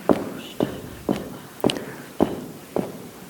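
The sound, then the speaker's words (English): A person stomps a foot down on a hard floor six times in a steady rhythm about half a second apart, fairly loud, with a faint echo after each impact. “Stomp it down.”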